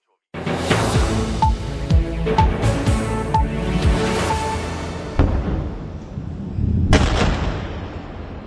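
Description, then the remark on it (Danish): A rapid series of heavy explosions in the Israeli city of Tel Aviv at night, amid waves of attacks between Israel and Iran, booms and rumbles, each blast rolling into echoing reverberation. A few seconds of lower rumble follow, then a final sharp, loud blast. No one speaks. “Ja, eksplosioner i den israelske storby Tel Aviv her i nat, for angrebsbølgerne fortsætter mellem Israel og Iran.”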